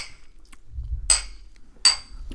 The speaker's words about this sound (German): Wir haben noch gar nicht live im Podcast angestoßen. Ja, dann tun wir das jetzt. Auf Mads Mikkelsen, liebe Freunde.